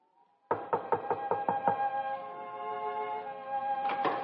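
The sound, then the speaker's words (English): A quick series of about seven firm knocks on a door by people seeking lodging for the night, evenly spaced, over a sustained musical chord that lingers afterward, with two more faint raps near the end. “Who knocks at this hour?”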